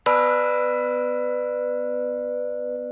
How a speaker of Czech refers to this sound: Mimochodem takto zní nový zvon, ten, který si vymění místo v kostele v Gretzingenu s tím z Píště.